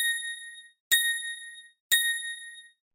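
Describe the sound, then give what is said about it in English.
Three clear, bright bell pips of the Tinkerbell talking clock's time signal, evenly spaced about a second apart, each ringing briefly before cutting off; the third bell marks 7 o'clock and 30 seconds. No voices, just the tones alone. “At the third bell, the time will be 7 o'clock and 30 seconds.”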